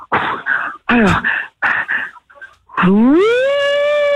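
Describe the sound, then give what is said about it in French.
Several short, harsh tonal bursts, then a fire engine siren winds upward in pitch and settles into a loud, steady wail that holds to the end. “C'est les pompiers, là.”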